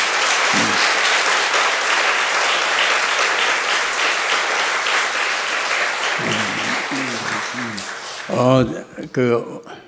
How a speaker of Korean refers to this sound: 우리 박수 한번 칩시다.